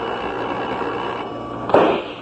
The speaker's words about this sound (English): A pistol shot, Craig. From inside the house.